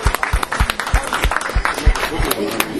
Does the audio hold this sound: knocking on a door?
no